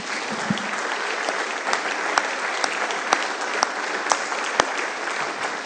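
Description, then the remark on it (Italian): An audience applauds for Jesus in a steady, dense wash of clapping that holds at an even loudness for several seconds, with a few sharper individual claps popping out above the rest. “Adesso facciamo un applauso a Gesù, gloria al Signore.”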